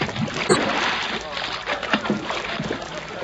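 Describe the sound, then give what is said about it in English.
A man falls overboard from a boat into lake water with a sharp splash near the start, followed by continuous sloshing and churning water, with muffled voices faintly underneath. “And finally, you push me overboard.”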